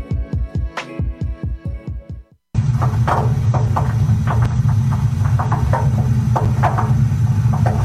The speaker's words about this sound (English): Is your water heater making that noise again? You know, the way it groans and creaks when it warms up.